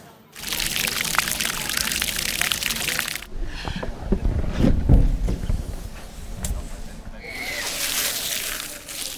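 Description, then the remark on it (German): Water from a children's play fountain rushes and trickles in a steady hiss, cutting out briefly mid-way to a quieter stretch with muffled background sounds before the spray resumes. “Und ich meine, schön ist es für die Kinder mit dem Wasser hier, das ist alles ein bisschen besser wie früher.”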